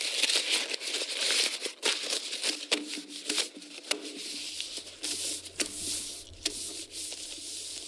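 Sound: paper rustling and crinkling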